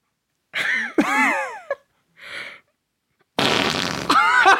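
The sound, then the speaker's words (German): A voice makes a loud, imitated pig fart: several blustery, wavering blasts with a short gap, then a long, noisy raspberry that ends in squealing, pig-like tones. Forceful. “Bitte einmal einen Schweinepups”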